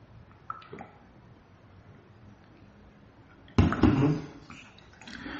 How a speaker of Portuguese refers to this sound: Deixa eu tomar água, peraí